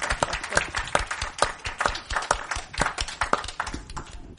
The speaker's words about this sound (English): Annetaanko aplodit toinen toisillemme? Let's clap to each other.